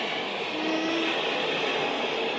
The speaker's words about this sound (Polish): Mocny szum drzew, jak mi się wydaje. A może morze? Morze.